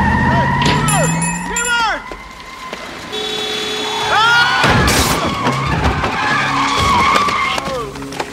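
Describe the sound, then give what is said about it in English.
Loud tires squeal and skid in repeated wavering bursts, then a sharp crash as one car slams into another, followed by more screeching. Voices can be heard shouting underneath. “You hit my car!”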